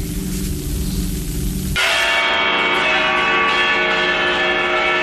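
A church bell in Valencia, Spain tolls a death knell: a deep, humming low bell rings first, then a bright, clanging strike bursts in and keeps ringing loudly, rich with overtones, with no voices.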